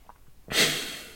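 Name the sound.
throat clearing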